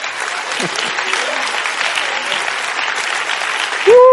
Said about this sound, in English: Give Jesus a hand clap. Stand to your feet. Come on, give him a standing ovation. He deserves it today.